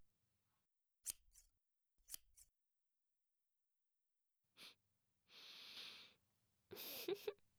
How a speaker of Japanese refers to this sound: ねえ、そのゴムしっかり握ってて。そう。で、私が結び目の部分をハサミで切っちゃうね。よいしょっと。